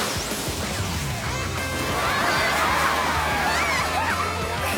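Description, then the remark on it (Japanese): A crowd of children shrieks and cheers amid a loud watery crash as Warner splashes water on the audience during splash time at an animal show, the excited screaming swelling and staying dense and continuous throughout. “やば、子供たち楽しそう。”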